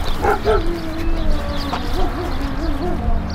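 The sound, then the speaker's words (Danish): A dog barks several times in short, yelping bursts over a steady low background rumble, with no one talking, in an area of tall grass and stripped trees between factory buildings and a barbed-wire-fenced camp. “Hvor er der hund henne?”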